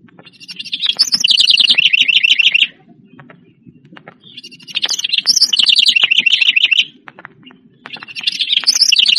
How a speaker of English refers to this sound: The House Wren.